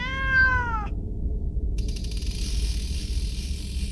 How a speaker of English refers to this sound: This is my cat.